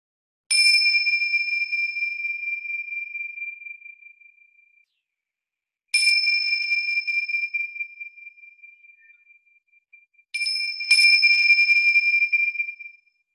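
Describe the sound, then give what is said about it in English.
Three clear bell strikes ring out alone in silence, rung to invite a group into a circle, each with a bright attack and a long, slowly fading resonant tone; the last strike comes as a quick double hit. “And I'm just going to ring some bells to invite us into the circle.”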